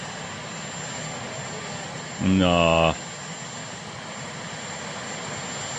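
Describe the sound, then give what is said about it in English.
The engine of the Marine One helicopter runs in a steady, loud, continuous roar throughout as Jill Biden climbs aboard, with one short spoken word from a voice cutting in briefly partway through. “There's Jill climbing onto the helicopter, Marine One.”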